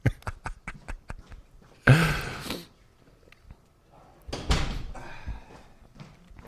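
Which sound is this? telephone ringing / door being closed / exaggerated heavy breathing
door being closed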